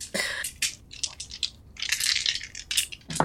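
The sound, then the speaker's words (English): Five dice are rolled for a manipulation roll in a tabletop role-playing game, clattering and rattling across a hard surface in a series of sharp bursts, with brief pauses between tumbles and no talking. “I'd like you to do a manipulation roll, but I'd also like you to, because all of you are trying, so add +3, and then for the role play, add an extra 2 dice.”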